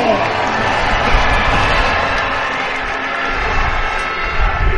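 A large stadium crowd cheers for the home team Fogo Unia Leszno in a loud, continuous roar that holds steady for several seconds, with scattered shouts blending into the dense wash of noise.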